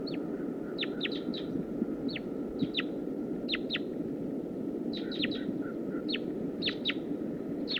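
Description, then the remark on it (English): A wild female bird, recorded from about 10 yards away, calls repeatedly, sharp high notes sliding downward, coming in quick clusters of two or three over a steady low rumbling background hiss, with no talking. “Start recording wild bird. Wild female.”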